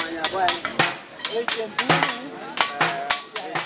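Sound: blacksmiths hammering old metal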